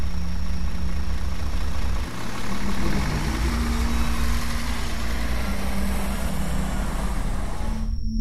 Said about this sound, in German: Wir haben den Bus nicht bemerkt. Den Bus mit seinem laufenden Motor, in dem der Fahrer gesessen und uns zugesehen hat.